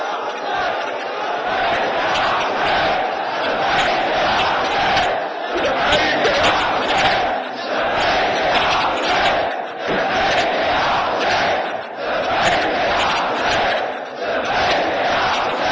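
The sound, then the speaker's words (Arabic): A large crowd shouts the Ashura cry together in loud, surging waves, the massed voices rising and falling in a steady rhythm of collective cries with brief dips between bursts, lasting throughout. “هذه صرخة عاشوراء.”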